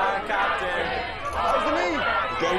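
A crowd of many voices chatters and overlaps continuously, a steady, fairly loud babble with no single speaker standing out, as people surround a market stall and pose for pictures.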